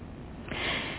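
A single breath drawn through both nostrils starts halfway through, a soft, steady airy hiss that swells and holds to the end, with no talking, during a nine-round breathing exercise.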